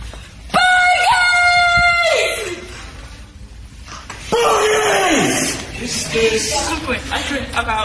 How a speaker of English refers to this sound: We went through the library and shouted bogey, starting quiet, and went loud. Bogeys!